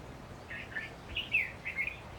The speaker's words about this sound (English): I hear your song, little bird. Tell me where you're hiding.